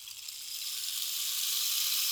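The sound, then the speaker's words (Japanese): A steady, hissing shower of fine patter like rainfall, made by a rainstick, swelling slightly louder over two seconds and heard alone without any voices. “心地よい雨音のシャワー。”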